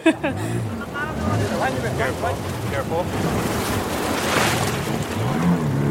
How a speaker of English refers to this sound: we had to go straight into crashing waves with the pirogue head on, essentially gunning it to make sure we could make it over that first breaker